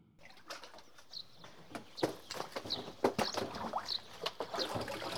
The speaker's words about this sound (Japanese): かつて和紙の里として知られた盆地に、今もリズミカルな紙すきの音を響かせる直手すき和紙。